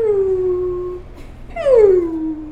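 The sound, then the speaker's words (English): A voice imitates a whale call with two long, gliding moans, each sliding downward in pitch, separated by a brief pause. The second call is louder. Both are clear, with no talking. “So I was thinking one that goes.”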